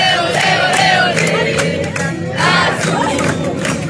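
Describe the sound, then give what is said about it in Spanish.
A large crowd of Cruz Azul football fans chants and sings a serenade to the team at the Club de la Noria on a Friday before the Clásico against América, in a loud, continuous roar, voices blending into a dense, sustained wall of sound with rising shouts throughout. “este viernes, previo al Clásico ante América, el equipo Cruz Azul se reconcilió con los seguidores, quienes acudieron a llevarles una serenata en el Club de la Noria.”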